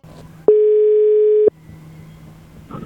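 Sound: telephone dial tone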